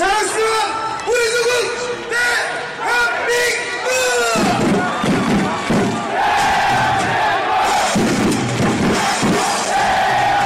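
A large crowd of football fans packed into Seoul's Gwanghwamun Square on a cold Thursday night chants and shouts together, cheering for South Korea's national team during its first 2022 FIFA World Cup group match against Uruguay. The noise is loud and continuous, with rhythmic group cheering, whoops and swelling roars over roughly ten seconds.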